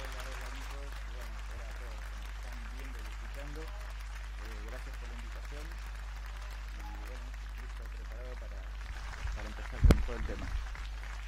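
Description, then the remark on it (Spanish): An audience applauds a guest being welcomed, with steady, noisy clapping that runs under voices throughout, then swells briefly near the end, where a single sharp thump stands out. “Así que lo vamos a recibir con un fuerte y un lindo aplauso.”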